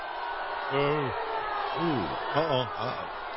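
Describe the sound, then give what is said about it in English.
A crowd boos Bernie as he urges electing Hillary Clinton and Tim Kaine, over a steady roar of murmuring voices, with several long, low, drawn-out boos that rise and fall in pitch, coming in waves over a few seconds. “And they continued that booing, and then Sarah Silverman got up and said, hey, come on.”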